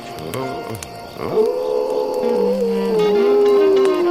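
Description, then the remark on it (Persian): A wolf pup howls in a long, thin wavering tone that rises at first and then slowly slides downward, preceded by a few short yips, with no talking over it. “بعضی وقتا روزه کشیدن یه بچه گرک فرکانسش از صدای بعضی آدم ها بالاتره.”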